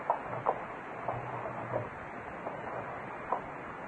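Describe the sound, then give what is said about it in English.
Windows being opened and shut: a handful of irregular wooden knocks and dull thumps, moderately loud, spaced unevenly over a steady background hiss, with no voices. “Well, what are you opening and closing those windows for?”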